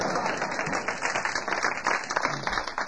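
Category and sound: crowd, audience applause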